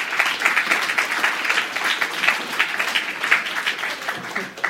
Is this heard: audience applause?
yes